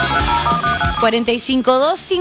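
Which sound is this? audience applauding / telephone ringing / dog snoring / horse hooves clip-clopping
telephone ringing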